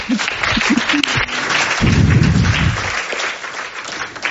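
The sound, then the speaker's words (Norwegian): An audience applauds a recent master's graduate about to speak on the veiled portrait: a steady, dense wash of many hands clapping at a fairly loud, even level for several seconds before it begins to thin out toward the end. “Vi gleder oss og klapper for det.”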